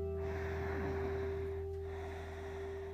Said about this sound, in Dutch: En dat kan je met een Ujjayi-ademhaling richting je borst doen. Dus Ujjayi is met die hele zachte ruising in je keel.